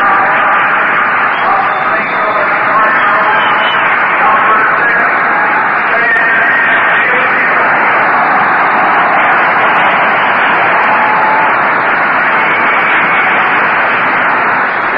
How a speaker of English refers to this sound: Well, here he comes. Stan the man, Muccio, is going to bat for Juan Marichal. And there's the roar from the crowd before Muccio is even introduced.